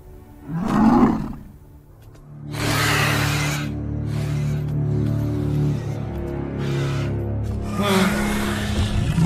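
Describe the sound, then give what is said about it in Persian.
A dragon named Thunder lets out a short snarl, then a long, deep, rumbling roar with raspy, breathy bursts that keeps going for several seconds, loud and with no voices. “حضور اژدهام تو این خونه ممنوعه.”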